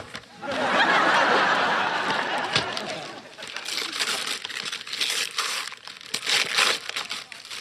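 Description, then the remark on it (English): Wrapping paper crinkles and tears as a gift package holding professional drawing pens is opened: a loud, continuous rustle at first, then a series of sharper crinkling bursts. “Bought it for you. You might as well open it.”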